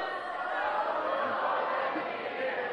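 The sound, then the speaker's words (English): A large group of people yell together in a loud, continuous, chaotic roar, voices overlapping for a few seconds as they shout the battle cry "A sword for the Lord and for Gideon" while running around blowing whistles. “So you lot are shouting, "A sword for the Lord and for Gideon."”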